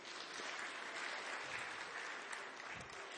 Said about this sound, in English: So, well, give yourselves a round of applause.